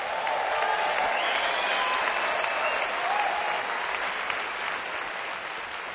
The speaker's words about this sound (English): Yeah, give him a clap!